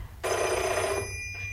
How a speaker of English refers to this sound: Oops, there's your phone.